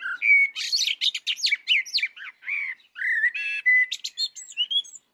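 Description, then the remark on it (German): A single bird sings a rapid, varied song of chirps, trills and whistled notes, clear, with brief pauses between phrases and no other sounds around it. “Also jeder Vogel hat ja ein ganzes Lautrepertoire, kennt man teilweise gar nicht alles.”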